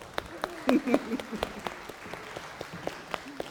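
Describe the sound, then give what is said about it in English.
An audience applauds the kids with scattered, uneven claps at a moderate level, while voices murmur and call out briefly early on before the clapping thins toward the end. “I think the kids deserve a round of applause.”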